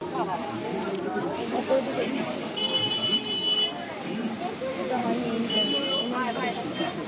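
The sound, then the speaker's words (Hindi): A spray paint can hisses steadily in long bursts with brief pauses, fairly loud, as pictures of young girls are spray-painted on roadside walls in Kolkata, India, while indistinct voices and street noise murmur in the background. “ये आवाज थी कोलकाता की सड़क के किनारे दीवारों पर स्प्रे पेंट से युवा लड़कियों की तस्वीरें बनाई जाने की।”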